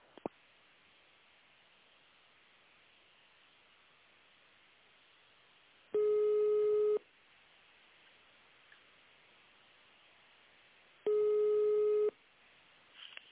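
Two long telephone ringback tones, each about a second, spaced several seconds apart over a quiet line hiss: the steady buzzy ring heard while waiting to be connected to a manager at the company Reproekt.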